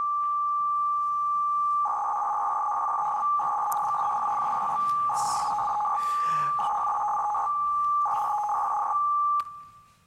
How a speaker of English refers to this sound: All right, so it sounds a bit like a modem. In fact, it's an FSK modulation.